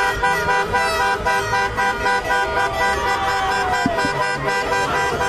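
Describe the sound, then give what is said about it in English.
A dense, continuous din of hundreds of car horns honking at once at night in Mexico City, Mexican fans driving right next to the tall hotel where Ecuador's team is staying; overlapping tones blare steadily, loud and unbroken like a huge traffic jam. “And it's hundreds of cars. Hundreds.”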